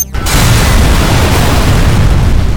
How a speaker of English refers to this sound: It directed the high-frequency energies of its explosion with great precision.